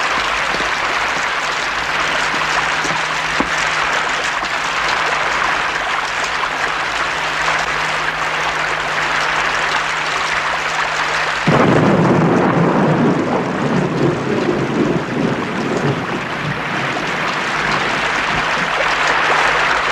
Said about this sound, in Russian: Ну и дождь. О-хо-хо. Вот это дождь.